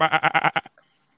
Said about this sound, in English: my phone makes a goat noise anytime I get a message from a DM from GroupMe